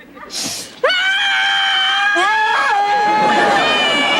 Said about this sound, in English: What's going on out there? Nothing. Just screaming.